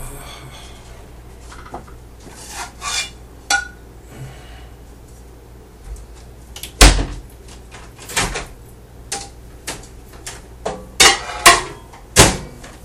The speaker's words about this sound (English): Sounds like a frying pan in the morning sound. Oh, that's actually a plate going into the oven with a turkey sausage on it sound.